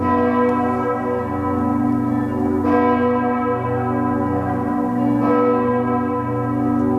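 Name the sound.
church bells ringing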